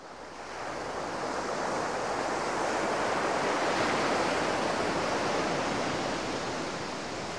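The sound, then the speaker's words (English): Ocean waves wash steadily against the Great Barrier Reef, a continuous broad roar of surf that swells slightly and holds loud throughout, with no voices present. “Our heroes arrive at the Great Barrier Reef.”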